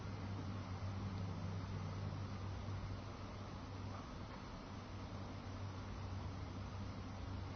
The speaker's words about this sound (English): And be aware of the traffic noises and the slight breeze in the air.